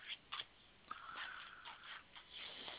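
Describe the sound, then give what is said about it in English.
Soft, rapid papery riffling of a deck of cards being shuffled before cards are pulled, a steady flutter with a few sharper clicks, quiet, with no voices. “I don't know if you guys can hear the shuffling.”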